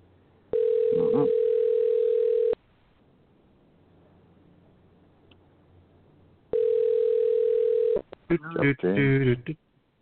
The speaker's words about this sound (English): It's ringing.